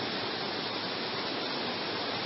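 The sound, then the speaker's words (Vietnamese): Heavy rain pours down in a dense, steady roar of hiss with no breaks or individual drops standing out, filling the whole clip evenly with no voices present. “Các vị mưa làm gì mà mưa to thế, thôi giảm bớt mưa đi, mưa mọi người không nghe được.”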